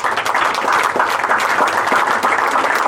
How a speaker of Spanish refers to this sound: Entonces, gracias al camarada Hassan, para quien pide un aplauso también.